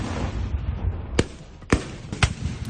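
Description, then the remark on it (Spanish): Three sharp gunshots ring out at intervals over a dense rumbling crowd backdrop, each a sudden loud crack with a brief echo, like muskets firing outdoors, fired between Carlist and Isabeline troops in a historical reenactment in Oviedo. “Disparos entre las tropas carlistas y las isabelinas para recrear el momento histórico en el que se encuadra el desarme.”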